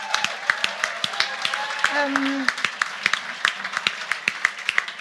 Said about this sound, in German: Also einen riesengroßen Applaus. Ein Riesenapplaus an Studio Bummens